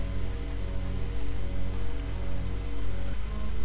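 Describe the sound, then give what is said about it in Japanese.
Gentle, damp rain falls steadily under dark black clouds in a soft, continuous hiss over a low droning hum, heard from an apartment window, unbroken throughout with no voices. “3日目、その日は休日で湿った雨がしとしとと降っていました。”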